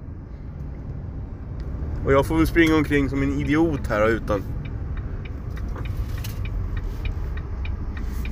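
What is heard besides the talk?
garbage truck driving past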